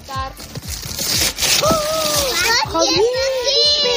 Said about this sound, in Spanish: Es que una Navidad que se precie tiene que acabar con este sonido, con los niños abriendo regalos junto a padres y con los abuelos recogiendo a toda prisa los papeles con que estaban envueltos para ir dejando sitio, ¿verdad?